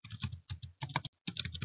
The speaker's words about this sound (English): I know you're there. I hear the pencil scratching.